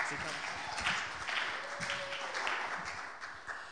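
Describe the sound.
A church audience claps and cheers to welcome a speaker coming up to share his story, a steady, dense wash of applause, with scattered voices calling out over the noise for several seconds.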